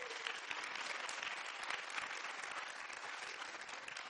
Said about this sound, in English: a round of applause just for all the effort she's put in.